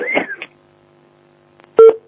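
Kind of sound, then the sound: signal or alarm, telephone tones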